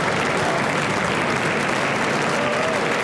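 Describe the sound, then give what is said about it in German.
Sustained applause from a large crowd fills the Bundestag plenary hall in Germany as a brass quintet takes position, dense and steady clapping with a faint murmur of voices beneath it throughout. “Applaus brandet auf.”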